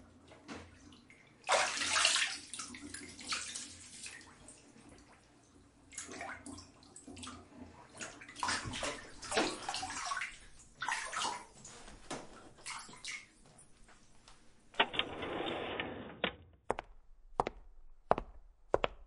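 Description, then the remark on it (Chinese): Water runs and splashes in uneven, rushing bursts as ink paste is washed off, then a tap pours steadily for a moment before a few sharp drips and knocks. No one speaks. “洗干净了吗？让我看看。”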